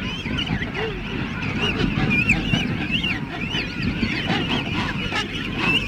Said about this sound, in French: vers le cap Radmanov, sur la côte est, à environ une quarantaine de kilomètres de Port-au-Français, on trouve une immense roquerie de manchots royaux. Écoutez bien ces cris bizarres où la voix des jeunes se distingue nettement de celle des adultes.